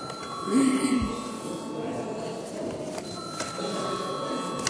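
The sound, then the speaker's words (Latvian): A steady electronic voting bell rings continuously in a parliament chamber before a vote, a sustained tone over a murmuring room, with a brief burst of muffled voices near the start. “Lūdzu zvanu.”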